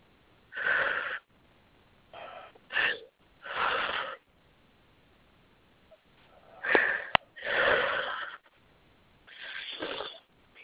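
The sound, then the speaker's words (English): Airy breathing: a series of deep inhales and exhales, each lasting about a second, separated by short pauses and uneven in rhythm, with no talking. “Let's take a few deep breaths.”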